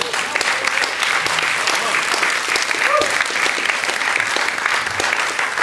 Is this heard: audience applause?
yes